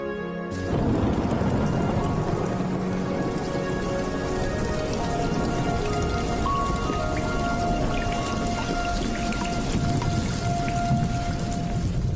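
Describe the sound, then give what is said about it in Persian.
Steady rain pours down, a dense, continuous patter of drops hitting surfaces, starting abruptly and holding an even, loud hiss throughout with no voices. “آخرین باری که بارونو دیدم یادم نمیاد.”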